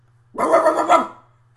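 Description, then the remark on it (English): A dog lets out a single harsh, snarling bark lasting under a second, loud, with a low hum underneath and no talking. “Dogs out.”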